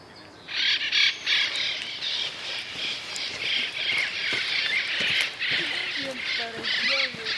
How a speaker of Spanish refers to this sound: me dice que son los loros orejiamarillos, llegamos al punto y mientras seguimos caminando un poco más, esperamos que salgan de sus nidos para poder al fin verlos.